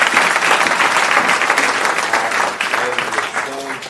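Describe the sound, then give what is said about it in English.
A large audience claps steadily and loudly for the whole stretch, a round of applause for the viewers, a dense wash of applause that eases slightly as a voice begins to rise through it near the end. “A round of applause for the viewers.”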